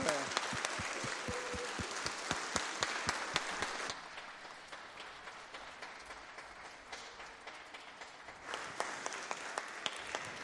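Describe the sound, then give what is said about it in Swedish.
An audience breaks into steady applause for a children's choir, many hands clapping in a dense patter that is loud at first, eases off for a few seconds, then swells again near the end. “Vi kanske behöver få ge dem en applåd, de här barnsångarna.”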